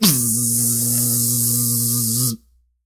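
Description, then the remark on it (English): A voice imitates a buzzing bee with a steady, loud, nasal drone. It holds one low pitch with a bright, hissy edge for over two seconds, then cuts off abruptly into silence. “You made it so you can make an accurate bee noise?”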